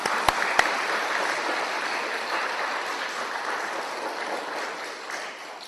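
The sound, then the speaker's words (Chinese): An audience at a Cantonese Buddhist talk on Amitabha applauds steadily for several seconds, a dense, even patter of many hands clapping with two sharp claps standing out right at the start. “所以我哋呢个心啊更要鼓掌啊！快啲鼓掌！”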